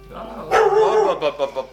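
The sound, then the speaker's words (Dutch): A dog barks, one loud sharp bark followed by a couple of quicker, softer barks in close succession. “schijnt te blaffen weer, of niet?”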